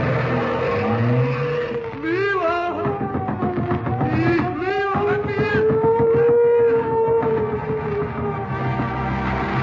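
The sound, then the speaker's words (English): A car engine roars and speeds off, with a couple of shrill, rising tire squeals over the steady motor noise. No one speaks. “Into the car, everybody.”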